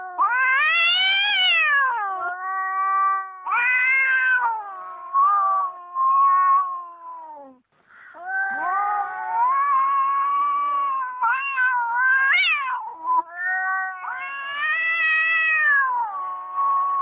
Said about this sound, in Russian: Кстати, у меня есть запись мартовского кота, если не возражаете, опять же, давайте его поставим и такую внесем весеннюю нотку в нашу радиопередачу.